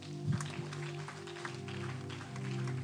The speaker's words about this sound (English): Another clap for Joseph.